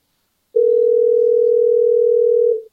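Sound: telephone dial tone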